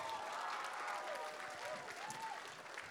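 A large group claps hands together in church, clapping for Jesus on a count of three, in dense, sustained applause lasting the whole stretch, with a few faint voices calling out beneath the steady clatter.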